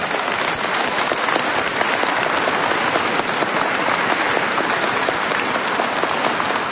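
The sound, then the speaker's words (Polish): A crowd applauds steadily and loudly, a dense wash of many hands clapping at once that holds an even level throughout without breaks or voices. The applause is for the hosts of a regional meeting of children's rosary circles at the Salesians' parish of the Exaltation of the Holy Cross in Kielce. “spotkanie podwórkowych kółek różańcowych dzieci, które przeżywamy w parafii Podwyższenia Krzyża Świętego w Kielcach u księży Salezjanów, a więc już na początku tego spotkania także gorące brawa dla gospodarzy dzisiejszego naszego spotkania.”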